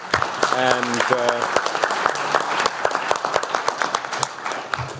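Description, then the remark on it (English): An audience applauds the speaker's department officials and their team, who cannot be seen, with steady, dense clapping that holds for the whole five seconds. A voice briefly rises over the start of the applause. “You can clap them as well, even though you can't see them.”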